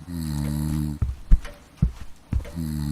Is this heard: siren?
no